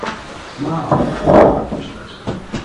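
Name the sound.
door being opened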